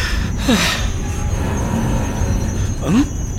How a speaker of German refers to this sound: Ich glaube, der Zug hält gerade an. Wirklich? Wir halten endlich an?